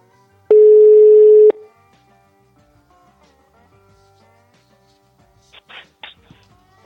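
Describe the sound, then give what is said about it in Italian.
A single loud, steady telephone ringback tone sounds for about a second as a call is placed, followed by a long pause with faint background murmur and a couple of brief noisy bursts near the end. “Vediamo se squilla, squilla, squilla, squilla.”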